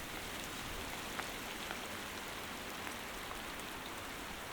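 Steady rain falls on the mid-slope of Youkai Mountain in Gensokyo in a continuous wash of hiss, with occasional sharper drops tapping surfaces. No voices, just an even, moderately loud downpour throughout.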